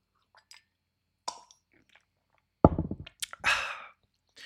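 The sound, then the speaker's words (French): Quiet mouth sounds in the morning: a few faint clicks, then a short wet sip and swallow, followed by a breathy slurp as someone takes a small sip of hot coffee. No one speaks. “Attendez, je vais boire une petite gorgée de café, ça ira mieux.”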